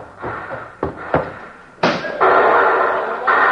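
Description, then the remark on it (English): An explosion blows a safe open: two sharp thuds, then a loud sudden blast that breaks into a long, steady roar of rushing, crackling noise with no one speaking. “Sound like someone blow him up safe.”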